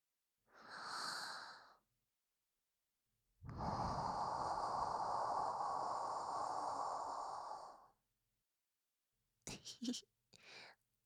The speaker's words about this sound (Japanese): 私のあったかい生吐息感じてる。ギャルに息を吹きかけられるってめったに経験できないし、耳に刻んどくのをおすすめしとくね。